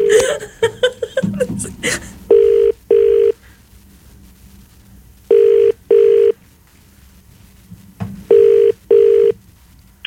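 A quick flurry of dialing beeps gives way to a phone ringing through the line as a call goes to a man's phone: three clear double-pulse rings, evenly spaced, with nothing else over them.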